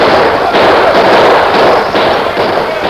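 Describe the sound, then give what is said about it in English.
A dense, continuous barrage of gunshots as lawmen charge on horseback at Meekin's gang, firing their guns. Many rapid cracks overlap into a loud, crackling roar that holds steady for about three seconds, with no voices. “The lawmen rode down hard and fast with their guns barking.”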